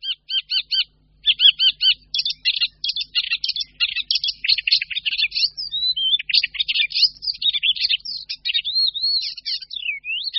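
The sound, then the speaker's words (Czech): Icterine warbler song: a fast, continuous jumble of high whistles, harsh scratchy notes and twittering chirps, delivered in quick repeated bursts without pause, clear and fairly loud with no voices. “Zpěv sedmihláska je směsicí nejrůznějších hvízdavých, skřípavých i švitořivých zvuků, přičemž charakteristické je, že mezi nejrůznější, několikrát po sobě opakované strofy, je zařazován pro sedmihláska typický výrazný motiv.”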